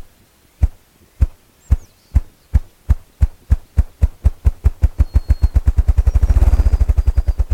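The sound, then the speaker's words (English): A male ruffed grouse performs his drumming display, thumping the air with his wings while standing on a resonant fallen log in a brushy thicket at the edge of a young aspen and poplar forest: deep, muffled thumps start slow and evenly spaced, then speed up into a rapid low whirring roll, with faint birdsong in the background. “Well, what you're hearing is a male ruffed grouse performing his drumming display.”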